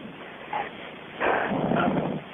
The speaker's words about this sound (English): I've been hearing barking for a long time. I don't know what's going on.